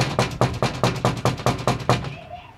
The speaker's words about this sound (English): The kind of guy who will pound on a meth house door.